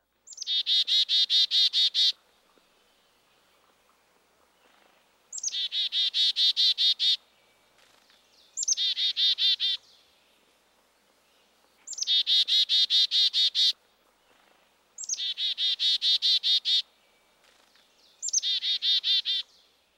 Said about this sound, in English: Now let's listen to two chickadees, the black-capped and the Carolina. These two birds derive their names from their calls. Chickadee-dee-dee-dee-dee. First, listen to the more northerly black-capped chickadee.